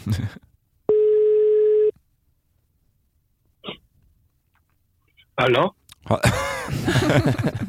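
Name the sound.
phone ringing tone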